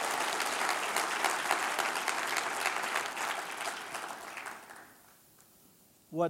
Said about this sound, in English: Another round of applause for our superstar.